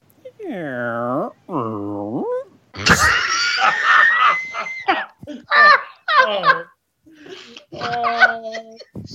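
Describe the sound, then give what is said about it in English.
A cat gives two long, drawn-out meows, then breaks into loud, harsh yowling and screeching cries in rapid, uneven bursts, with nothing else around them. “We had a dog, some rabbits, and we had a cat.”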